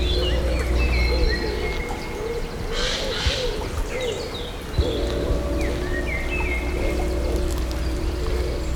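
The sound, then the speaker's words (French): A gentle, light stream flows through a wooded forest landscape in a steady, soft wash throughout, while birds chirp and doves coo over the running water. “Oiseaux, un léger cours d'eau.”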